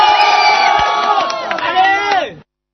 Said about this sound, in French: Donc, applaudissez pour Omega. Oh, allez.